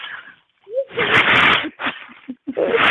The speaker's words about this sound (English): Yeah, bonfire. He got me. A romantic. He got me over here coughing.